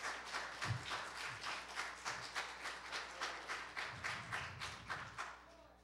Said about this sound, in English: Give him a hand clap of praise in the house.